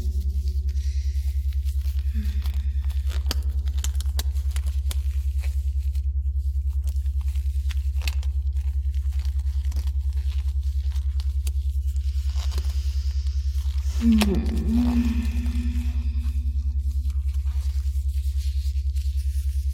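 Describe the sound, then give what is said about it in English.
Black latex gloves being pulled on: soft, scattered rubbery crackles and rustles over a steady low hum, then a louder squeaky stretch of rubber before things quiet again. “Can you hear the soft rubber as I pull them on?”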